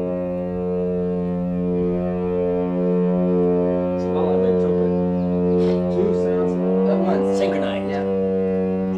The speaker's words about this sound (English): that won't do for a foghorn. It's got to have a grunt on the end. Mm. Oh. And one fellow says, yes, it must have a base terminal appendage.